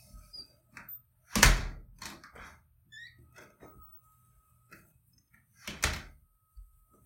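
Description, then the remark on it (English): A door opens with a loud bang near the start as a person walks in, followed by light shuffling footsteps and small clicks, then the door thuds shut again near the end; fairly loud, no talking. “Change perspective, walk in the door.”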